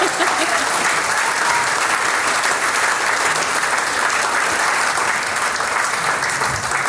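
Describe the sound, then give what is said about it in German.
Sustained audience applause fills the whole stretch, a dense, steady patter of many hands clapping at once, loud and even from start to finish with no voices standing out. “Man darf sie ja ab und zu selber einen Applaus spenden.”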